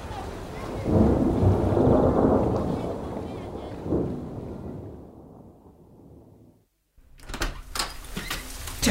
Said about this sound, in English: What is the point of getting everyone all excited with 4 days of fantastic sunshine, only to ruin it by pissing on everyone with a thunderstorm from hell, eh?